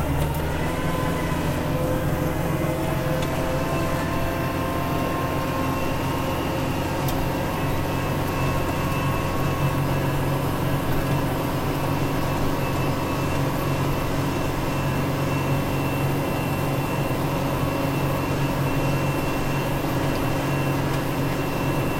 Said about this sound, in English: Gotta yield to the traffic, especially when you're driving a tractor back to the shop. Oh, it's bumpy.